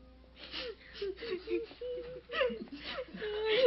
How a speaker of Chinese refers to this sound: 彼得到了约帕，好多可怜的寡妇站在他身边哭，并且拿多加在世的时候为他们做的衣服给他看。